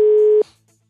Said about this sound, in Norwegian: Okay, prøver å ringe deltaker. Vi prøver igjen nå.